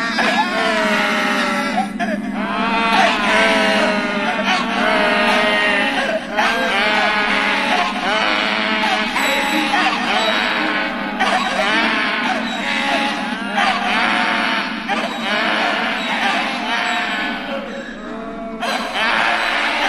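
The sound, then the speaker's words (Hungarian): Two donkeys bray loudly and almost without pause while running around in circles, their wavering, see-sawing cries overlapping for the whole stretch. “Most meg két szamár rohangál körbe-körbe.”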